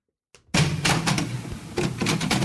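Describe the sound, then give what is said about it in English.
A door into a stadium press box opens with a short creak, then loud, continuous crowd noise bursts in, staying steady with a few swells until the end. “The fact is that the stadium will have the sound of a door.”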